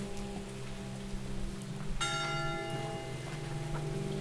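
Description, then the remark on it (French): Steady freezing rain hisses throughout during a walk from Chamborigo to Vialas, and about halfway in a church bell strikes once, its bright ringing tone lingering and slowly fading over the wet background. “Le 3-0 marche de Chamborigo à Vialas sous une pluie glaçante.”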